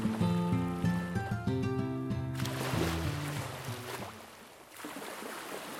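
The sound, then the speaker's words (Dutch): Water laps and sloshes against the dark wooden hull of the Batavia, a brand-new 46-metre ship at the anchorage in Texel on 29 October 1628, in a steady wash, rising in after a held musical chord fades away. “Water klotst tegen het donkere hout van het spiksplinternieuwe 46 meter lange schip, de Batavia.”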